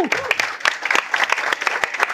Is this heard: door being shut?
no